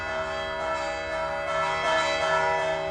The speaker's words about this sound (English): I had noticed that there was a church on the corner of 53rd Street and 5th Avenue that gave rise to strange bell sounds.